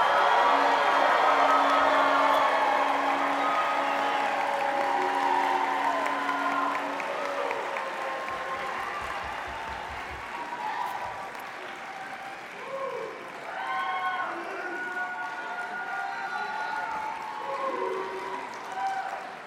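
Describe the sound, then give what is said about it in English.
A large Federation crowd cheers and applauds loudly for the class of 2019 Jacob Balaton Award winners, a dense wash of clapping and whoops that stays strong throughout, with scattered voices shouting over the steady roar of the audience. “Let's hear a loud Federation cheer.”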